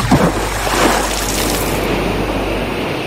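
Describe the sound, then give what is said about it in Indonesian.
A loud, sustained wash of rushing water with a broad splashing surge early on as big sea waves crash against a boat, continuing as a steady roar with no talking. “Ombak besar kembali menghantam perahu mereka.”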